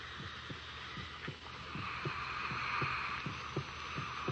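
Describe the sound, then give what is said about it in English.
A heartbeat heard through a stethoscope: low, muffled thumps repeating at a quick, steady pace, about ten beats, over a constant airy hiss and hum. No one speaks. “Stethoscope.”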